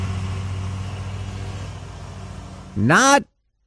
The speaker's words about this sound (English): How early is too early? Robust debate. This was 7:25 this morning. Riding lawnmower.